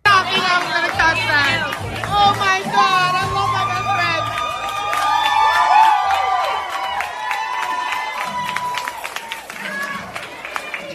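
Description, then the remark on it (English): Parents in a crowd clap and cheer enthusiastically for a child taking part in a drag show, with steady rapid applause mixed with high excited whoops and shouts from many voices, loud and sustained for the whole stretch. “Parents applauding enthusiastically for a child participating in a drag show.”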